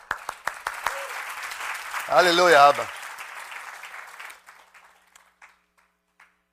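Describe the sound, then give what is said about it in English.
An audience applauds in a steady wash of clapping that fades out over several seconds, while a voice calls out briefly over it and a few last scattered claps trail off. “Give him a clap.”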